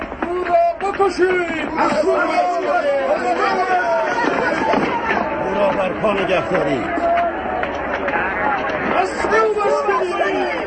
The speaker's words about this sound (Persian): آنان همچنان با صدای بلند فریاد می زنند که عیسی باید مصلوب شود.